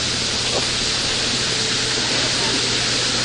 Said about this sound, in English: Running water. It's just really pretty.